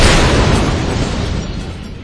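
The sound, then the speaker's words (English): A loud blast bursts out with a deep rumbling roar that slowly decays over two seconds: a small explosion of a button-sized piece of plastic explosive with a copper detonator, blasting an outer door open. “The small explosion shook their ears, and then the outer door swung back.”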